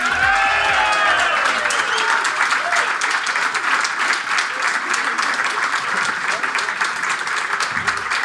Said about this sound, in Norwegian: Stående applaus her. Det var koselig det.